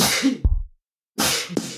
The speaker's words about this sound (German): kurz Marker, ich muss niesen. Aber da musst du auch ins Mikro niesen, dass ich dann Remix draus machen kann.